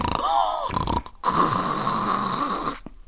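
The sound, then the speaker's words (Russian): Loud, rasping snoring from a wolf sleeping under a bush in a forest: two long, heavy breaths drawn in close succession, harsh and guttural, with no talking alongside. “Видит, под кустом волк спит, страшным голосом храпит.”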